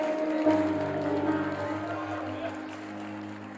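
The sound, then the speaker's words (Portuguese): An audience applauds in glory to God in a steady, dense wash of clapping and crowd noise, with sustained keyboard chords humming underneath throughout. “Todas as vezes que você aplaudir nesse lugar, aplauda com glória a Deus, para você nunca pensar que essas palmas são para mim.”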